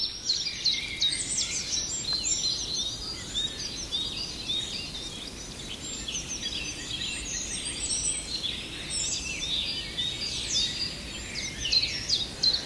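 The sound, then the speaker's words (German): Songbirds give busy 'zip-zap' calls, dense overlapping high chirps and twitters that continue without pause at a moderate level, with no voices. “Und der Zipzap, das habe ich neulich nochmal mit meinem Freund Greg besprochen.”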